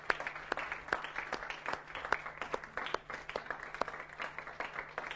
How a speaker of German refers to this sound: Gibt doch einen Applaus für diese mutigen Männer und Frauen.